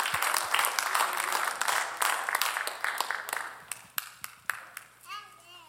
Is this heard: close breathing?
no